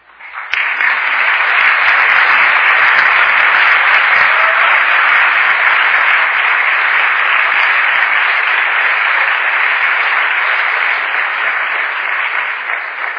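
An audience breaks into loud, sustained applause after a sermon on Hebrews 6, a dense wash of clapping that holds steady for over ten seconds with no voices breaking through.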